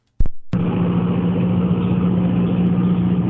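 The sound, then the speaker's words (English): After a couple of sharp clicks, a tractor-mounted automatic hedging slicer roars into steady operation over the tops of bright green citrus trees, pruning them on a sunny day in Sunraysia; a loud, droning engine-and-blade hum with a strong low tone that holds constant throughout. “So we've got a look from inside an excavator or a tractor cab with a bit of mesh over the front, and you see this slicer, automatic slicer, over the top of all these beautiful neon green citrus trees, and every now and then you see a branch come down”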